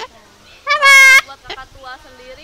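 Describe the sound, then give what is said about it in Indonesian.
A male cockatoo lets out a loud, harsh laugh-like call lasting about half a second, followed by a few softer, shorter squawks or voice-like sounds. “Nah itu dia ketawa ya.”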